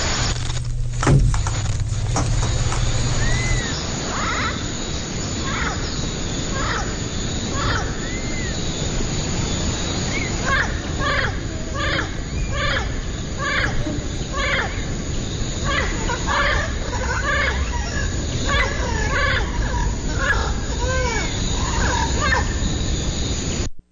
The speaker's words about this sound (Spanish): Estamos escuchando el loro amarillo, ¿verdad? Loro nuca amarilla. Ahí platicando. El loro nuca amarilla, perdón. Sí. El loro nuca amarilla.